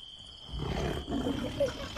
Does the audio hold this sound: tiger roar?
yes